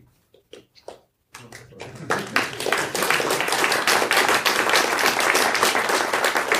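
A few scattered claps come first, then a short pause, then a crowd bursts into loud, dense applause that builds quickly and keeps going steadily to the end.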